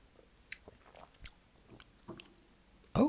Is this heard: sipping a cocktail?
yes